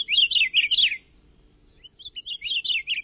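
An Akiapolaau, a Hawaiian honeycreeper of the Hawaiian Islands, calls in two bursts of quick, warbling high-pitched notes separated by a brief pause, clear over a faint low background rumble.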